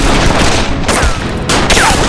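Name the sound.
gunfire volley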